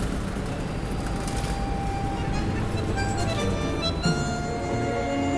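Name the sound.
busy city avenue traffic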